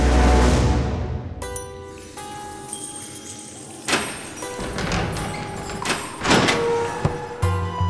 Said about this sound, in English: The sound of the cell door swinging open startled Heinrich Bauer awake.